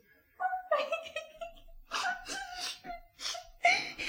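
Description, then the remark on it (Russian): A princess cries and whimpers, with wavering, high sobbing wails broken by breathy gasps and sniffles. The bursts come in uneven fits, fairly loud, with no talking. “Принцесса, не плачьте, принцесса.”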